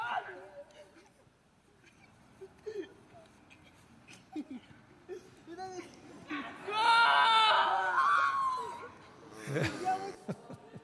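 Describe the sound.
A group of boys shouts and cheers celebrating a goal, building from scattered voices to a loud, sustained whoop in the middle, with another burst of yelling near the end.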